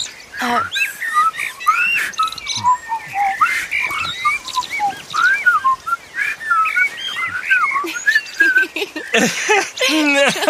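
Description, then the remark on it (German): A busy bird song of quick, whistled chirps and sliding notes repeats for about ten seconds in a forest, clear, with a steady outdoor hiss behind it. “Was das wohl für ein Vogel war?”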